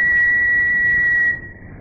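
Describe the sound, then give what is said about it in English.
A train whistle from a train coming up behind sounds one steady, high-pitched blast for just over a second over a continuous low rumble, then cuts off, leaving the rumbling to carry on more quietly. “I think there's a train that wants to overtake.”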